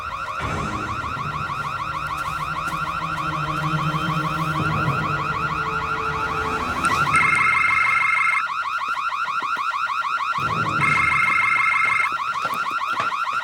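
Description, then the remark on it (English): A loud electronic alarm blares continuously, cycling through rapid warbling tones and then steady piercing beeps that repeat in bursts, with no talking over it. “This is a alarm. Could you please turn this off?”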